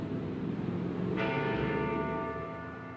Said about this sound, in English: As the old City Hall clock tower chimed 11 times on the 11th hour, a quiet hush fell over those gathered at the cenotaph to remember those never to be forgotten.